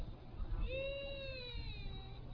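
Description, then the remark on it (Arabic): A young child cries in one long, drawn-out wail that rises slightly, over a steady hum of background noise. “إعلان في طفل يبكي يا أخوان.”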